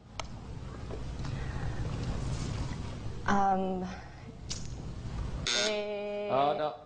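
A game show buzzer sounds twice during a word-guessing round, each a harsh, loud, harmonic blast under a second long, over a steady murmur of audience noise.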